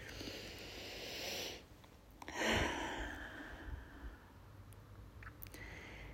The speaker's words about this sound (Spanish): Y comenzamos con una respiración profunda que nos trae aquí.